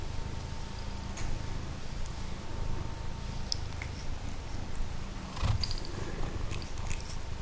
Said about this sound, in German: Und schnurste, ne? Ja, jetzt schnurste. Fein. Ja, was denn, ne? Ja. Die schnurrt.